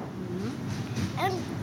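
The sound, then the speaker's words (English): Steady low rumble inside a moving train heading west out of New York City, carrying a 4-year-old boy and his mother, with brief fragments of voices, including a higher-pitched exclamation, rising over the constant drone. “4-year-old … and his mom … are riding on a train heading west out of New York City”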